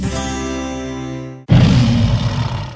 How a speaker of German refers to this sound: Was war das denn? Mein Löwensteiner Sportmineralwasser. Das brüllt, wenn's leer ist.